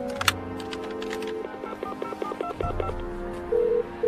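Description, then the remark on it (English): A phone number is punched in as a quick run of about seven beeping keypad tones, evenly paced, after a few clicks, then one longer tone; no one speaks. “May I use your phone?”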